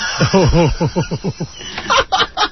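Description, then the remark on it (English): A quick run of about eight clucking calls from a chicken, fairly loud, followed by a few sharper, higher squawks at the end. “I thought it was a polished chicken. I thought I hit the wrong one here.”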